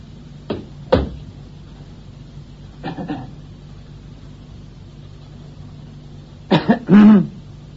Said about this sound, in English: I get that cough of yours seen to,